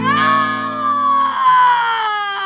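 A loud, sustained scream, high and strained, holds for about two seconds with a slightly falling pitch before breaking off, piercing, with no talking around it.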